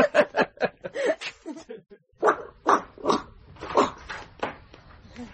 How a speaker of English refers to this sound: Ah, there you are. This dog's been keeping me company.